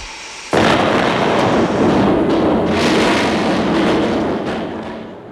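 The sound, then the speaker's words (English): Sausages banging in a hot frying pan: a sudden loud explosive burst that becomes a sustained, roaring crackle lasting several seconds before easing off slightly at the end. No one speaks. “So that's why they call them bangers.”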